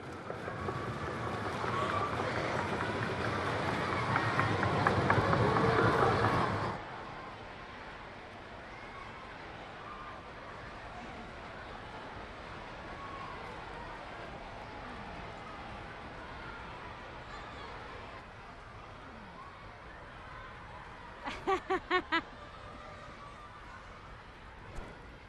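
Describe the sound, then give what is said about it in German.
At a children's university (Kinderuni) lecture, children applaud by making fists and drumming them on the tables in a loud, dense, continuous clatter for several seconds before it abruptly stops. Quiet rustling follows, then a quick burst of four or five sharp knocks. “Nee, man macht eine Faust und dann klopft man damit auf den Tisch.”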